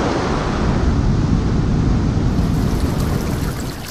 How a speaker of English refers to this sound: Ocean.